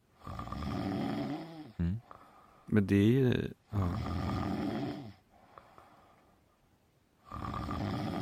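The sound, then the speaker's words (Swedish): Between stretches of conversation, someone gives one loud, drawn-out snore, a voice imitating snoring for about half a second, before the talking picks up again. “Du snarkar.”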